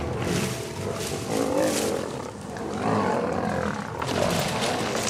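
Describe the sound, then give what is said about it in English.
Three male lions scuffle nearby at sunset as the sky darkens, tussling and roaring in a dense, continuous growling struggle, loud throughout with deep rumbling snarls and bursts of harsher roaring, no voices present. “Those are lions tussling.”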